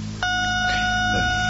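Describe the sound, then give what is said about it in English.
An answering machine beep cuts in abruptly after a moment of low hum: a steady, fairly loud electronic tone that holds at one pitch to the end, with no one talking. “So after you hear the sound of the beep, then I'll get back to you.”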